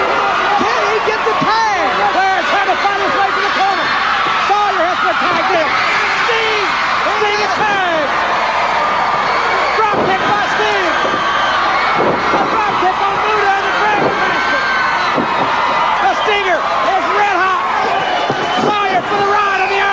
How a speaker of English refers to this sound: So now Flair trying to make the tag, and we get the hot tag to Sting, and you can imagine the crowd's reaction on that.